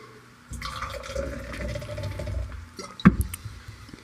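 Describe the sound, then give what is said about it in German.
Water pours steadily into a glass or container for a few seconds, gurgling, to rinse out the taste between beer tastings, then a sharp clink and brief splash near the end. No one speaks. “Ich glaube, ich muss mit Wasser noch spielen.”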